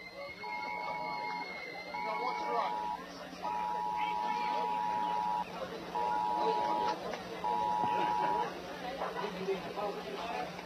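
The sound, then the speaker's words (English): At a baseball game, a steady mid-pitched buzzer sounds five times in uneven bursts, some short and one about two seconds long, set off because AT&T has a problem, over a constant hum of crowd noise and murmuring voices. “You're hearing buzzers go off, and that's because AT&T has a problem.”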